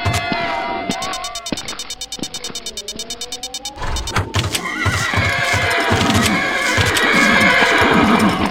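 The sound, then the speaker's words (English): Horses neigh and whinny with rising, wavering calls while hooves clip-clop in a quick, steady rhythm, growing busier and louder toward the end, with a faint crowd-like murmur beneath. “We got all the horses rounded up.”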